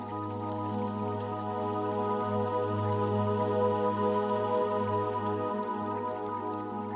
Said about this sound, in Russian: под журчание воды